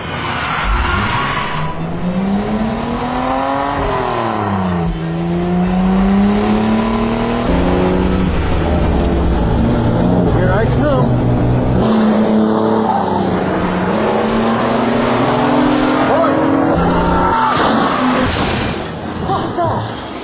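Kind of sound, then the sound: vehicle, car revving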